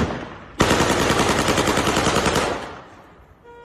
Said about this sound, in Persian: به نشانه وجود افراد مسلح در ایزه، شخصی با لباس بختیاری تیراندازی هوایی می‌کند.